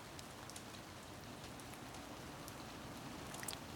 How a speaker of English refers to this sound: a light cascade as it drips from step to step. The sound on the path is quite different from the sound of the rain drumming into the lawn on the right. And this is different again from the blanketed, heavy, sodden feel of the large bush on the left.